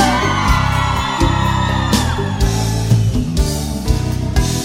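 Excited people let out shouts and whoops over loud, driving music with a heavy thumping beat, the cheering rising in bursts throughout.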